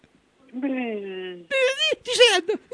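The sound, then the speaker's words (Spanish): A person cries, starting with a long, drawn-out moaning wail, then breaking into higher, wavering whimpers and sobbing cries. “Estoy llorando.”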